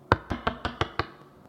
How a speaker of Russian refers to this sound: Он говорит о себе, что «я стою у дверей вашего сердца и стучу». Вот так вот. Может, не очень слышно.